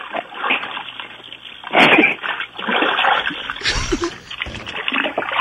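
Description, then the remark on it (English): Water sloshes and splashes in a bathtub as a person sitting in the tub plays with little miniature figures, with a few sharper splashes standing out from a steady churning of water over several seconds. “You're sitting in the tub right now doing what?”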